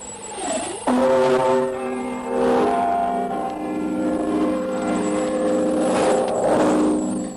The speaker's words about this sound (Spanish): Y comenzamos con las campanadas del Big Ben que indican medianoche 15, hora de Greenwich.